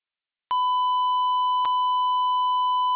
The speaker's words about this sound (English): Stand by for tones.